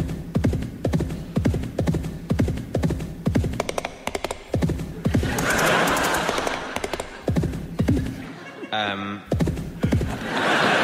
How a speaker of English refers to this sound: Sorry, that time it was the horse.